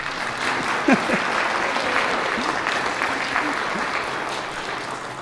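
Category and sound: crowd, audience applauding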